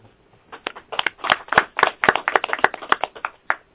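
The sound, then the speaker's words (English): A short round of applause from a small group at a meeting, given to a table that has finished its work, with irregular, overlapping claps that build quickly, hold for about three seconds, then thin out to a few last claps. No one speaks. “And I would want that we give them a big round of applause.”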